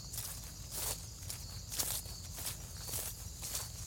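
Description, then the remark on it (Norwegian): Steady footsteps walk outdoors toward the cowshed on a summer night, each step a soft crunching scuff at an even pace of about two per second, with a constant faint hiss in the background and no voices. “Det kom fra bak fjøset. Vi får gå og se etter, da.”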